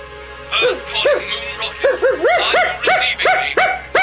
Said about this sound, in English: The dog. Mr. Baxter, it's their dog.